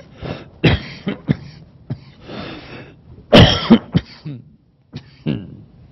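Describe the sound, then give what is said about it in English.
A fit of harsh coughing: several loud, sharp bursts scattered unevenly over a few seconds, with rough throat-clearing sounds between them and a brief silence near the end. “Did you know that cough was heard around the world?”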